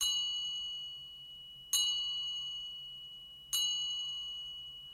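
Bells open a song: a bell tolls three times at slow, even intervals, each strike ringing out clearly with a bright, lingering tone that slowly fades before the next one. No voices.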